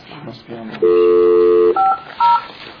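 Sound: telephone keypad dialing tones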